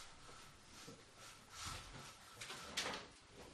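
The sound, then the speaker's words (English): Windows and a door being opened to let more air in: a few soft scraping, sliding bumps and a sharper clack near the end, fairly quiet over a steady background hiss. “We should open a couple of windows, I think. Can we get that one open and that one open? Just gonna maybe open the door.”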